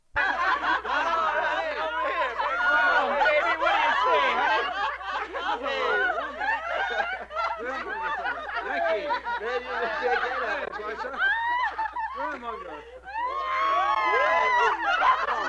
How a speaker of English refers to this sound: 22A, mixed drunken crowd.